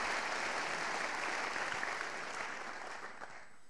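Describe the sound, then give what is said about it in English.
An audience claps for the Lord after a healing is told of, a dense, steady wash of applause that holds strong, then gradually thins and softens toward the end. “Can you give the Lord a clap for that?”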